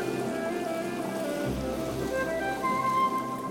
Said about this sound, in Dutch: Het begint vloed te worden. Het water komt langzaam dichterbij. Het water kriebelt aan je tenen.